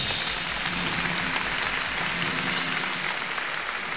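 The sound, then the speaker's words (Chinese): Steady, dense applause from a large audience welcoming four Hong Kong Chinese traditional music instrumentalists as they are introduced at a concert, a continuous wash of many hands clapping at an even, sustained loudness with no voices standing out. “那么还有四位呢，也是香港非常优秀的国乐琴手，让我们以热烈掌声来欢迎他们四位。”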